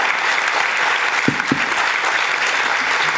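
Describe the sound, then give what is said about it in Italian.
An audience applauds steadily throughout to thank a priest being sent to a new parish in Novellara, a dense, even wash of many hands clapping at a fairly loud level, with no pauses and no voices standing out. “gli facciamo un altro applauso, gli auguriamo...”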